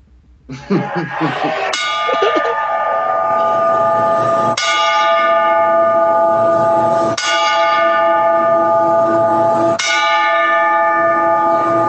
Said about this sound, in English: I have a 10-bell salute in honor of Edge's haircut.